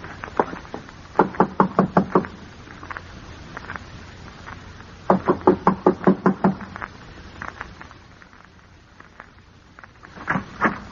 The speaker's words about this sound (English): I'm going to knock on the door now and keep smiling to show we're friendly and let me do all the talking.